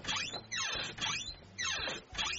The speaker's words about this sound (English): my son's door is really squeaky